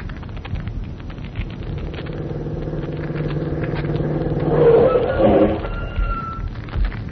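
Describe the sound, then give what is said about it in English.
A car engine drones steadily, then revs up and accelerates, its pitch climbing before settling back into a rumbling drive. “Well, we can drive to Quarry Road in half an hour. Come on, hop in the car.”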